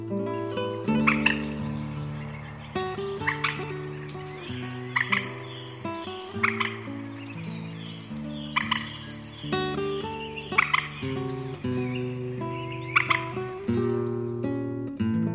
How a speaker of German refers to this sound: Das war die Teichralle.